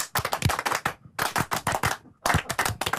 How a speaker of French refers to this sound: Comment vous appelez ça ? La clap russe ? L'applaudissement, c'est comment ? C'est les remerciements russes. Alors, les remerciements russes.